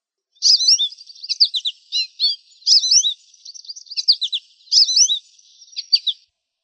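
A canary sings a bright, sweet warbling song, with quick trilled phrases and short pauses repeating steadily for about six seconds, with no voices.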